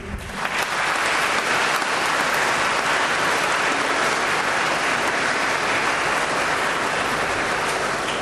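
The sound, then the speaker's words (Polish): Sustained audience applause for a speech at a parish gathering, a dense steady wash of many hands clapping at full strength for over eight seconds, swelling quickly at the start with no voices heard. “Więc dziękujemy Państwu za tą piękną wypowiedź, która była odbierana z radością, oklaskami.”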